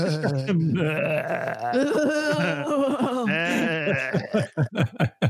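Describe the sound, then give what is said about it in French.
A voice imitates a sheep with a long, quavering bleat that wavers for several seconds, then breaks into short, rhythmic bursts of chuckling laughter, loud. “Écoute, il y en a qui disent qu'on est déjà tous des moutons zombies, hein, alors voilà.”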